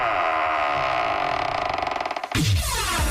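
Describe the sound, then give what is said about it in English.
A heavy metal vault door creaks open slowly, a long groaning, ratcheting creak that builds in rapid pulses before ending in a deep resonant clunk. “Let's open up the vault door.”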